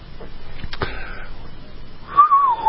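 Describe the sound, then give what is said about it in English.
A short, clear whistle slides downward in pitch near the end, preceded by a brief clatter and a faint higher tone. It's moderately loud, with no talking. “I wish I could whistle for 5 minutes.”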